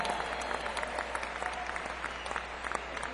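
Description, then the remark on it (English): A concert audience claps steadily for about three seconds for a slide guitarist, a dense, even patter of many hands at moderate loudness with no voices standing out. “And I'd like you all to give him a big round of applause, okay?”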